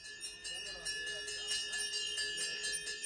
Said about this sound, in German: Zwischen einem Elektroladen und einem Asia-Shop befindet sich ein heiliger Ort. Ein dunkelhäutiger Mann steht an der Tür und schlägt die Glocken. 5 Stufen geht es hinab, schnell noch die Schuhe ausziehen, dann steht man im tamilischen Hindu-Tempel.